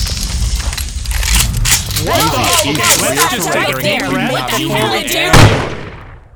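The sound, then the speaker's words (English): Voices talk over a noisy background, then a single sharp, loud warning gunshot cracks out near the end and quickly fades into quiet. “Warning shot.”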